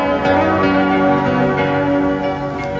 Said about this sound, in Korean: 오랜만에 아파트 초인종을 누른다.